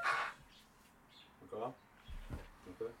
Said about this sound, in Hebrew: הציפורים האלה משגעות אותי.